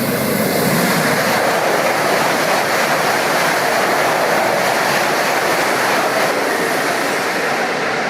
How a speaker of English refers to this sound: What pops into your head when you think trains in China? You think of something like this, right?